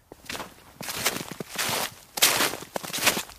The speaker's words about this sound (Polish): A pod śniegiem liście. Ten skrzyp śniegu miksuje się z szelestem suchych liści. Suchych lub zmarzniętych. Efekt dźwiękowy może być taki sam.